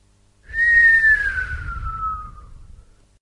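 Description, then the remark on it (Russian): A person lets out one long, falling whistle of surprise, clear, sliding downward for about two seconds over a faint low rumble. “Присвистнул”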